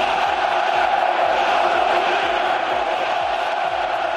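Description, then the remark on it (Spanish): A large crowd at the Wanda Metropolitano stadium, mostly Atlético supporters, chants "ole, ole, ole, Cholo Simeone" in unison in support of coach Cholo Simeone, a dense, loud roar of many voices sustained throughout with a steady rhythmic pulse, no single speaker standing out. “Ayer, medio Wanda Metropolitano gritaba esto.”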